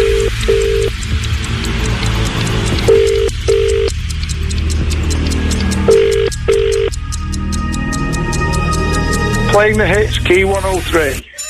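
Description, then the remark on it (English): A telephone rings in repeated double bursts, three pairs a few seconds apart, over a steady rhythmic music bed during a phone-in call on the Key 103 radio station in Manchester; the ringing stops as the call is answered and a voice begins near the end. “Blimey, O'Reilly, you left it to the last second then, didn't you? Oh, because my phone was in my pocket and, you know.”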